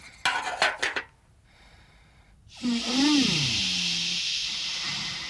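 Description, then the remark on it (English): A metal kettle being heated for tea on Errol clatters with a few quick clanks, then after a short pause a loud, steady hiss rises and continues, with a low wavering whine running beneath it. “Nobby, take that kettle off of Errol.”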